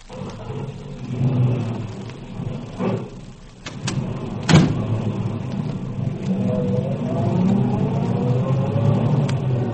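A car engine rumbles low, a sharp thump cuts through midway, then the motor revs up with a steadily rising pitch as the vehicle pulls away. No one speaks.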